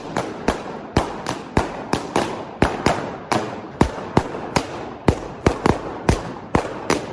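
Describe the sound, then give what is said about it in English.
Sharp, loud pops burst in quick, slightly irregular succession as David Rush stomps balloons in a Guinness World Record attempt to break 100 balloons using only his feet, around twenty bangs in seven seconds, each with a brief ringing tail, with no talking. “Fastest person to break 100 balloons using only their feet.”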